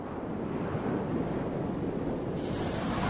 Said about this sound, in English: Here's another good one. Ocean Waves. Close your eyes, apart from if you're driving.